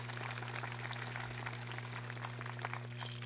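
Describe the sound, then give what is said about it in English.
A rattle made of coconut shell, used as accompaniment for Creek songs, shaken steadily and quickly, producing a continuous dense crackle of small seeds or pebbles, fairly quiet, over a low electrical hum, with no talking. “This is my accompaniment. It's made out of coconut.”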